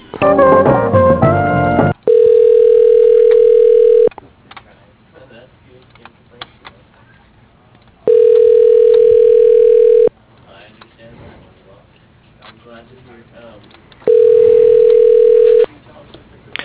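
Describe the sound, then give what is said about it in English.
Phone transfer tones as a call is put through to an employee's voicemail at Wiser Engineering: a quick burst of mixed keypad beeps, then three long, steady mid-pitched tones, each about two seconds, separated by quiet stretches with faint background murmur. “I can put you through to his voicemail.”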